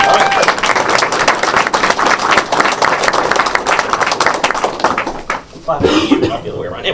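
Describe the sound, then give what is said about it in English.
An audience at World of Commodore, marking TPUG's 40th continuous year, claps and applauds steadily for several seconds, dense and fairly loud, then the applause thins out and a voice starts talking near the end. “I'd like to clap for myself.”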